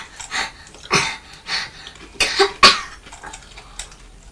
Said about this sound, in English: Help me, my cough.